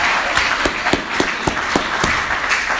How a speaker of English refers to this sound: I think you've done a fantastic job. Give yourself a clap.